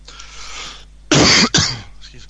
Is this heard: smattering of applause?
no